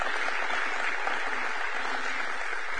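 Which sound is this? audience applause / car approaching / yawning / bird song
audience applause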